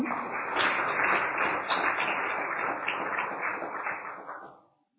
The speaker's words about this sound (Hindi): और ऐसे स्थान पर आप सभी भट्ठी करने आए हैं तो आप सबके सौभाग्य का किन शब्दों में वर्णन करें, तो आप अपने लिए ही ताली बजाएं।